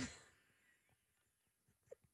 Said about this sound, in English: And the company, don't snort, please.